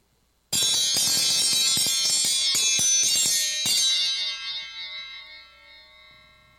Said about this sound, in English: It's time to ring the dinner bell.